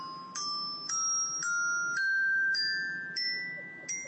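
Step-up bells struck one at a time with a mallet, about seven bright ringing notes climbing steadily up a scale at an even pace, each tone sustaining into the next, clear with no voices.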